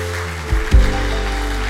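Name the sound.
audience applause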